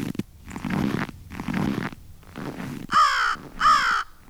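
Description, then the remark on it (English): Three soft crunching bursts, like steps in snow, give way to two loud, harsh crow caws, one right after the other, with no talking. “A crow will walk, some might say swagger, across a snowy parking lot, leaving right and left steps much as a walking human would.”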